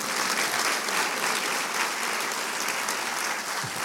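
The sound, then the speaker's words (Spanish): An audience breaks into loud, sustained applause for Jesus, a dense wash of clapping that holds steady at full strength for several seconds with no voices standing out. “¿Podemos darle un aplauso fuerte a Él?”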